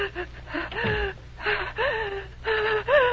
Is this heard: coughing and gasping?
yes